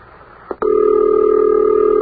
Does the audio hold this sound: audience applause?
no